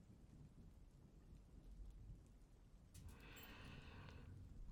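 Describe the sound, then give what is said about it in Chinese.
Steady rain falls with a low, rumbling undertone, and about halfway through a brighter, hissing wash of water joins in and holds to the end. No one speaks. “今天下雨，就稍微热一点吧。”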